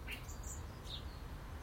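A few short, high chirps from a blackbird on the back doorstep come in quick succession, soft, over a low steady background rumble with no one talking.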